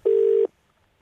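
A single burst of telephone ringing tone, a steady electronic purr lasting about half a second, loud, followed by silence. No one speaks.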